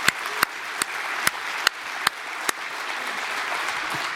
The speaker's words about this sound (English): And so we just say a huge thank you. Let's give our media guys big round of applause.